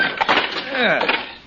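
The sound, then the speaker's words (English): Wood cracks and splinters loudly as a locked wooden door is forced open, a burst of snapping and crunching with groaning creaks, lasting just over a second with no talking. “And this door's locked. If we can't break it open, we can cut through the wall.”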